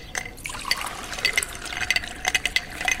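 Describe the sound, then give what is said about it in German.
Homemade lemonade pours from a jug into a glass, a steady splashing and gurgling with a few light glassy clinks. There is no talking. “Ich bin schon den ganzen Tag hier und verkaufe selbstgemachte Limonade aus diesen Kannen hier.”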